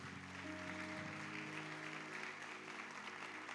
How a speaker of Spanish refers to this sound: Démosles otro aplauso de bienvenida.